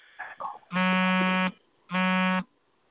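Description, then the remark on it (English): A phone vibrates in two loud, steady buzzing bursts, each under a second long with a short pause between, low and rattly in tone. A brief snatch of voice comes just before. “you got to turn your vibrations off, son.”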